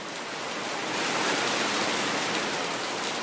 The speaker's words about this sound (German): Es ist Monsunzeit in Südasien. Heftiger Regen überzieht Indien, Bangladesch, Nepal und auch Sri Lanka.